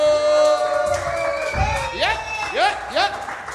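A crowd cheers and whoops in a loud, sustained burst, with rising and falling shouted or whistled calls over a steady wash of applause.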